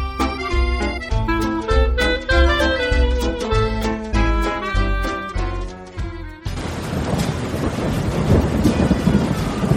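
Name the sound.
pouring rain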